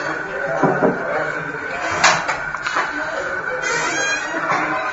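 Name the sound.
squeaky door hinge creaking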